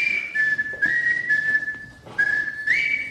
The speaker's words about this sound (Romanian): Ia mai fluieră puțin, te rog.